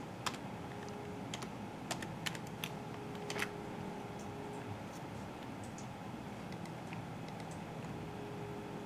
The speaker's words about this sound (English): So now I hit sign in. Oh, let me try typing it in manually.